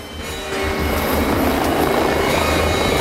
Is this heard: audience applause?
no